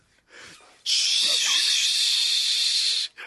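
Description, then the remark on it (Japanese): A shower spray turns on and runs in a steady, loud hiss of falling water for about two seconds, then shuts off; a brief soft voice murmurs just before it starts. “いいの、あーちょっと仕事で疲れてさ、俺シャワー浴びてくるわ。”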